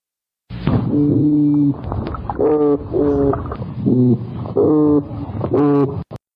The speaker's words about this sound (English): Now, something many folks don't know is that fish also produce sound. And I'll play a toadfish sound for you right now.